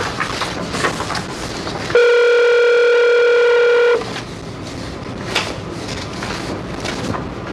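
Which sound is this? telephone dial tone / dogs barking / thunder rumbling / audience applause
telephone dial tone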